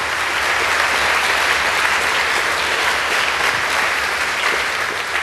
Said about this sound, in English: So at this point, we're going to open it up for questions. Okay, a round of applause.